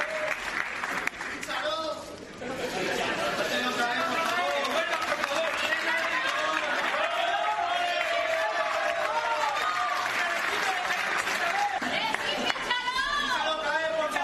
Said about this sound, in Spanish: En el escenario, abrazo, besos entre ambos y en la grada, gritos de los presentes que le pedían a Florentino que lo vuelva a fichar.